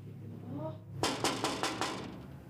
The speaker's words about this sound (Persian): رسول دارن در میزنن.